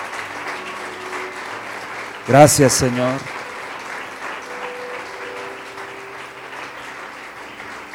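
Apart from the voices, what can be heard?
audience applause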